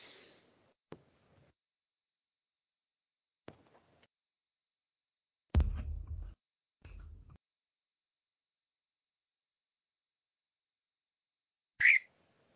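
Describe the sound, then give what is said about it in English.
A pet bird squawks and chirps in short, scattered bursts separated by long silences, with a couple of louder, harsher calls midway and a final sharp squawk at the end. “That'd be that my bird.”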